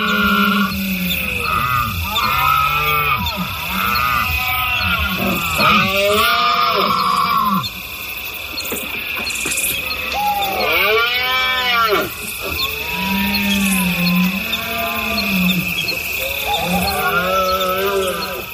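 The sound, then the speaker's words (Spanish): Red deer stags bellow again and again during the autumn rut, deep pig-like groaning roars overlapping from several animals, some loud, with a tawny owl also calling, over a steady high background hiss and no talking. “Parecen cerdos, pero son ciervos berreando y además se escucha un ave rapaz.”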